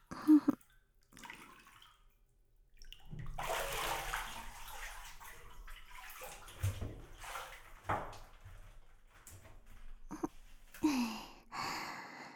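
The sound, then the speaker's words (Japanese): Water sloshes and splashes in a bathtub for several seconds in irregular bursts as someone gets out of the bath. Soft breathy vocal sounds come at the start and end, with no speech. “ほら、お風呂から出て。”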